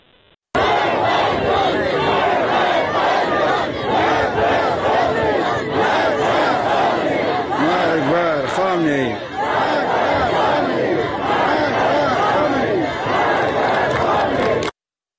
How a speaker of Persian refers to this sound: در کامیاران مردم بر فراز مزار فؤاد محمدی که 24 آبان ماه در جریان اعتراضات کشته شده بود جمع شدند. شعار مرگ بر خامنه ای سر دادن.